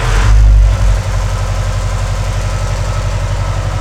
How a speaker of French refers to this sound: Et là, je pense que vous allez pouvoir couper parce que je vais allumer le groupe électrogène, vous n'allez plus rien entendre.